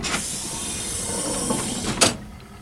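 A sliding door opens with a steady, airy pneumatic hiss that runs throughout, broken near the end by a short, sharp clack as it finishes moving. No one speaks.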